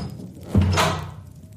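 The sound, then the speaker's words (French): A single solid thud of a door being shut behind a man who has just entered, with a short low rumble and airy reverberation fading away afterward. No one speaks. “Gabor entra et referma la porte derrière lui.”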